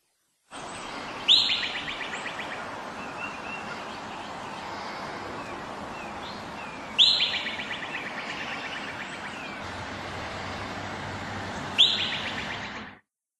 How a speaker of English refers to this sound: That is the Whistle Pig. The Whistle Pig. The Whistle Pig. What a great name. What the hell is a Whistle Pig? A groundhog.